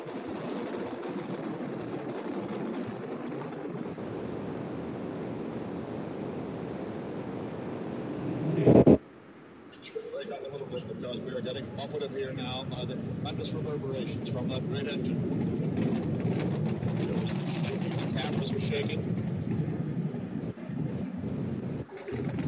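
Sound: rocket engine roar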